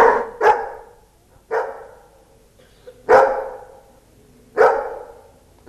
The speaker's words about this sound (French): Un aboiement veut dire non, 2 aboiements veulent dire oui.